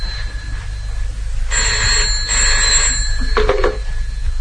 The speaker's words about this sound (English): Oh, dear, there's the phone. Shall I answer it? No, it's all right, Steve. I'll take it.